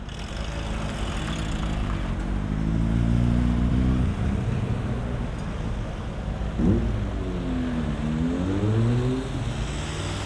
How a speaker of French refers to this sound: J'écoute même pas, mais ça me couvre le bruit des voitures. Alors, ça paraît peut-être stupide, mais c'est la seule possibilité que j'ai des fois pour plus entendre rouler, quoi.